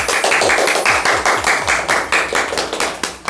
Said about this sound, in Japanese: もう拍手喝采でございます。